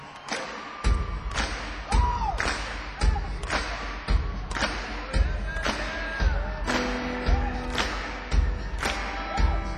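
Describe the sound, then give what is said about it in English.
An audience claps along in unison to a song at a steady beat, about one clap per second, over music with sustained melodic tones and murmuring voices. “I see everybody clapping your hands.”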